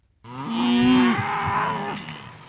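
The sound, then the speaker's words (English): A single loud, drawn-out moo from a cow being hand-fed during drought in the northwest of New South Wales, low and harmonic, rising slightly then tapering off over about two seconds, with no talking. “They're hand-feeding cattle in the northwest of New South Wales”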